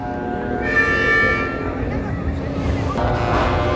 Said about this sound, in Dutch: Och, en daar gaan de klaksen. Ja, daar gaan ze weer.